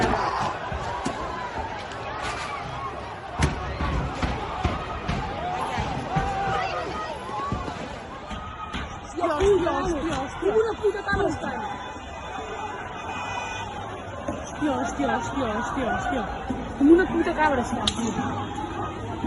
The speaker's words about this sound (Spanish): ese momento en el que una persona se sube a una furgoneta de la comitiva del partido En Marcha y decenas de radicales llegan a porrear los parabrisas y vemos incluso cómo lanzan sillas y mesas de las terrazas de alrededor.